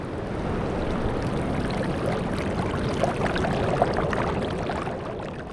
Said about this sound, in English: And she also got some very nice sound of water going over the falls, where you can hear the falls kind of in the distance and the trickle of the water nearby.